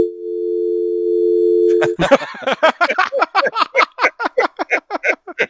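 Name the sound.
telephone dial tone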